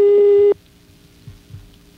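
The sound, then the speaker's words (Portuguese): A loud, buzzy telephone busy tone after a hang-up blares for about half a second, then drops to a faint, steady hum of the line over quiet background noise. “não desliga o telefone, não!”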